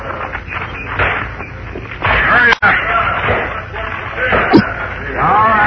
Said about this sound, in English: You with the hammer. Knock the top off that box.